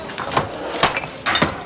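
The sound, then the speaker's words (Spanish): Three heavy, sharp blows from a large hammer swung by a worker in a cap, his clothes covered in dust, striking a partition wall, spaced about half a second apart, each a loud thud with a brief crumbling rattle, and no voices. “golpea un tabique con un gran martillo.”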